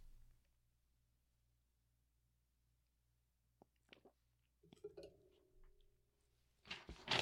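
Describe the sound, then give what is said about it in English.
After a stretch of near silence, a few faint crinkles and crackles lead into a sudden, loud rasp of paper being ripped by a woman at the very end. No one speaks. “She's ripping paper again.”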